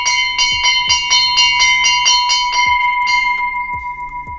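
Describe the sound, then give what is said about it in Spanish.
A bell rings loudly and rapidly to signal the start of elections, struck about a dozen times in a steady rhythm with a short pause near the end, each strike clear and bright with lingering ring. No voices. “En este momento, solo se espera el sonido de la campana para”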